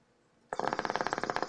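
After a brief hush, loud bong bubbling starts abruptly: a fast, steady gurgle of rapid, evenly spaced pops that runs unbroken to the end, with no voices.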